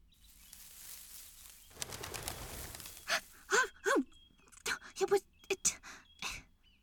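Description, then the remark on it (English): A quail bursts up with a quick, whirring flurry of wingbeats, followed by a person's startled gasps and short breathy vocal sounds. “It was a quail.”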